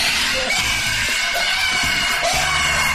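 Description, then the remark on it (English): Loud, continuous high-pitched squealing and screaming fills the whole stretch, shrill and harsh, with scattered low thumps and bumps underneath. A pig is screaming while being handled on a pig farm. “They all scream at first.”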